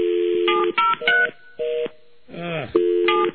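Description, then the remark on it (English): A run of loud electronic telephone line tones from a dropped phone line, with steady beeps and dual-pitch bursts switching on and off, broken briefly by a warbling voice-like sound midway. “And in order to lose the phone line, like everybody had to lay on the switch, right?”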